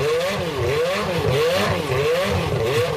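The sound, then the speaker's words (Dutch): A 1991 Jordan 191 Formula 1 car's high-pitched V8 engine revs repeatedly, the pitch rising and falling in quick cycles, loud, with no voices over it. “de voormalige Formule 1-auto van Michael Schumacher, die staat te koop. Ja, de Jordan 191 uit 1991. Laat me even horen trouwens.”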